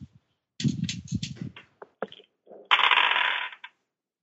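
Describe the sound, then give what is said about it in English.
Dice rattle and clatter: a burst of quick knocking taps, a few sharp separate clicks, then a longer rolling rattle across a hard surface, fairly loud, with no voices. The dice are rolled for a Spot Hidden check in a tabletop role-playing game. “Come on, dice.”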